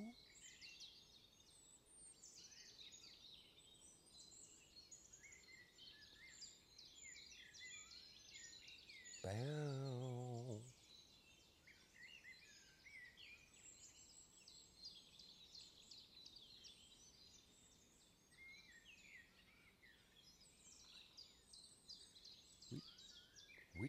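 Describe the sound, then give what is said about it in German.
A starling sings a continuous, fast medley of twittering and chattering phrases, mimicking a linnet's light twitter, with a brief lower, harmonic call cutting in near the middle. “Fast wie so ein Papagei. Oh, da imitiert er einen Bluthäfling.”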